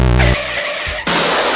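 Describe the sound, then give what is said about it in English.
A short car crash sound effect: a sustained harmonic squeal or horn, a brief rumbling pause, then a loud, harsh burst of crunching noise that holds to the end. “We don't have it. We have a car crash.”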